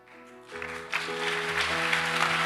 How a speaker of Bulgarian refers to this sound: О, ако ръкопляскате, ръкопляскайте, като че не ми отнемате телевизионно време.